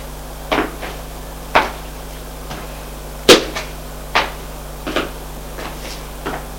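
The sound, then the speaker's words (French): A door opening into a large living room, heard as a series of sharp clicks and clunks spaced irregularly over several seconds, with one louder knock midway and a faint steady hum underneath. “ouvre une porte éclair.”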